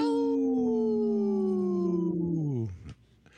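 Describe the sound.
A man's voice imitates a wolf howl, one long sustained tone that slowly slides downward over about two and a half seconds before breaking off, loud; the howl is weak because he has a cold after COVID.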